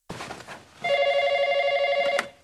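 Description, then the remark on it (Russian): A telephone in an armchair rings loudly in one sustained bell burst with a steady buzzing harmonic tone, preceded by a brief rustling clatter and ending abruptly with a short click, in a scene from the film about Amélie. “Амели находит телефон в кресле.”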